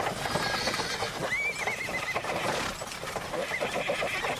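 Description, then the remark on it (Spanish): A horse lets out a high, wavering whinny over a busy bed of clip-clopping hooves and rolling horse-drawn carriage noise at the Puerta del Sol in Madrid, with a steady clatter running throughout. “Este sonido lo grabé ayer en la Puerta del Sol, del siglo XVI.”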